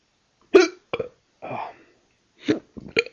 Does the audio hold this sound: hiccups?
yes